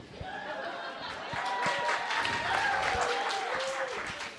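A crowd applauds with dense, steady clapping that swells slightly midway, with faint murmuring voices mixed underneath.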